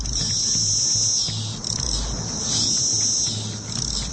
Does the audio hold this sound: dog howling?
no